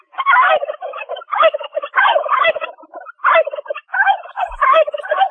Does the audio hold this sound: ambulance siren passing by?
no